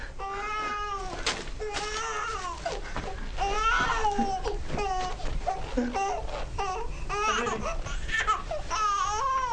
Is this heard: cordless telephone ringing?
no